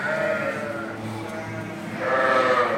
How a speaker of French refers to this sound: On a 700 brebis. Ce lot-là, c'est un lot qui va faire l'agneau au printemps pour la traite de l'été. Là, on a les dernières qui ont fait l'agneau, les toutes dernières.